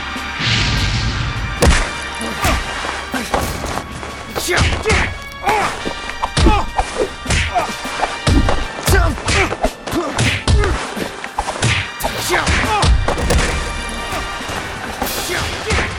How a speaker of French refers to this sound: Le Caire, dans un immeuble en chantier.